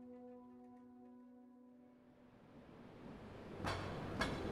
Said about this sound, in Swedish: På gatan gnisslar spårvagnar förbi snödrivorna